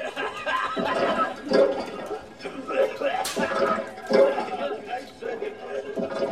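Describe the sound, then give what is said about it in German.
Water pours steadily from a black sewer pipe and splashes into a floor drain grate inside a small cabinet, a continuous gurgling rush that swells and eases in uneven surges. “Das Wasser, das gehört man nur.”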